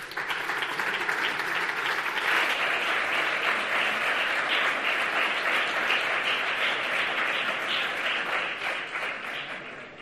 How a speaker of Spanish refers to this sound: Un fuerte aplauso.